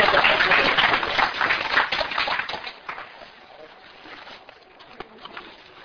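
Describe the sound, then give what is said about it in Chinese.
An audience at a company conference bursts into dense, steady applause of encouragement for a speaker, loud at first, then thinning out and fading to scattered claps over the last few seconds, with faint voices underneath. “来，我们再次给他鼓励一下， 好，谢谢。”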